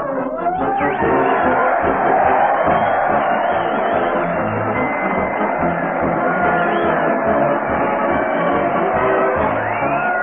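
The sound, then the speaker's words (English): A large crowd cheers and shouts continuously as Fred Allen leads his parade to the old town hall on the radio show Town Hall Tonight, a dense, loud roar of many voices with occasional whoops, sustained without a break and slightly muffled like an old recording. “Crowd cheers.”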